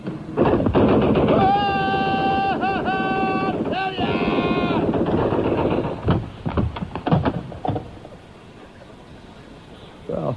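A machine-gun sound effect played on the Don Vogel radio show: a loud, sustained burst of rapid fire rattles for several seconds with a wavering high tone over it, then breaks into a few scattered single shots before fading.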